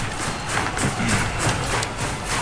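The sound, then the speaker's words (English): A dozen horse-mounted riders charge full speed after a train, hoofbeats pounding in a fast, continuous rhythm, loud, thick with a dusty roar of noise around them. “The ragtag bunch charges full speed after the train.”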